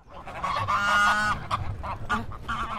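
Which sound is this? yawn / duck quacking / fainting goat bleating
duck quacking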